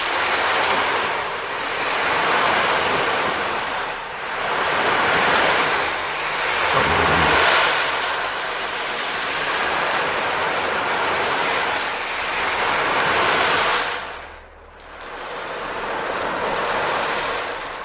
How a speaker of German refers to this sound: Und ein absoluter Hit bei meinem Sohn ist die Ocean Drum. Und das ist eine Trommel, die das Rauschen des Meeres sozusagen imitieren soll. Ich kann sie vielleicht mal kurz ein bisschen anspielen.